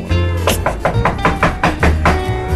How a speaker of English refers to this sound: Wait a minute. Is that someone knocking?